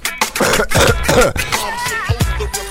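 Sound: cough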